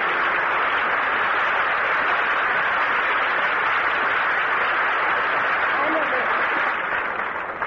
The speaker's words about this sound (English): He was in the center, has to wend his way out to the aisle, up the center stage, and now up to Shirley Temple and greeted by tremendous applause.